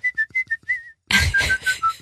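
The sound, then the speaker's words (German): Someone whistles a short melody: a run of quick, clear notes ending on a held tone, then a louder, breathier stretch of whistled notes with a rough, echoing wash behind them. “Ich war nur am Pfeifen oder in der Gasse am Singen.”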